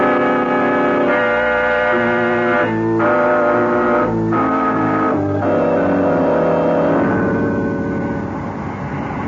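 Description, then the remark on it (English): A loud, steady jet boat engine roar at full throttle, droning continuously with a horn-like tone that shifts pitch in a few abrupt steps, with no voices over it. “I've got the jet boat wide open, sir.”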